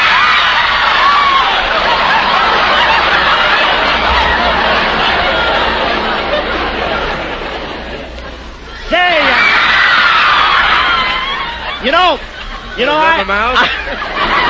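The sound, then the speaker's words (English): A loud audience of young women shrieking and cheering at a singer's show, a dense wall of high-pitched screams that dips briefly, then surges back with piercing individual squeals rising above the din. “the Sinatra Show, where men are men and women are out front screaming”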